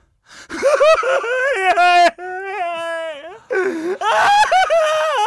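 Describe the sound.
A voice acts out crying in a series of high, wavering whimpering sobs with catching breaths, loud, broken into a few strained bursts with short pauses between them.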